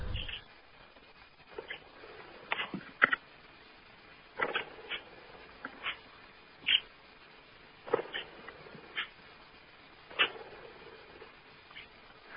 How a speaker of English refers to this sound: But this would be the budgie itself and not the bell we're going to hear. No, it's not the bell.